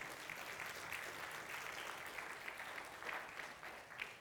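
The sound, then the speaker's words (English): An audience claps steadily, a dense, even wash of many hands with no pauses, holding at a moderate level throughout. “You can clap for that.”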